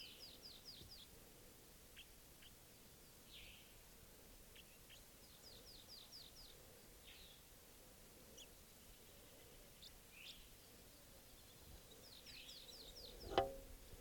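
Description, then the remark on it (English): A bird, probably a male, up in a tree sings a soft song in quiet, high-pitched phrases of rapid downslurred notes, repeated in short bursts over a low steady background hiss, with one brief sharp thump near the end. “Doing a soft song. It's probably a male.”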